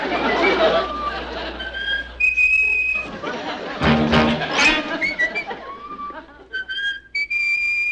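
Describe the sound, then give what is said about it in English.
Someone whistles a tune, bright sustained notes rising and falling in a simple melody, with a murmur of voices and background noise underneath. “Will you stop whistling that silly thing?”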